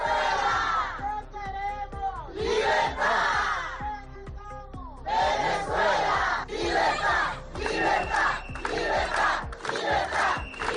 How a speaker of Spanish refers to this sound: aquí en La Rioja, más de 300 personas se reunieron en la Plaza del Espolón para gritar libertad para su país.